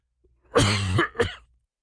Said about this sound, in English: I apologize in advance if there is any unexpected coughing today. My voice is way better than it was.